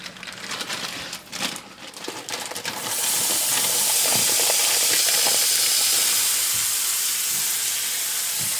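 Pre-chopped bacon and onion sizzle and brown together in a frying pan, starting with crackly pops, then swelling at about three seconds into a loud, steady hiss that holds to the end, with no talking.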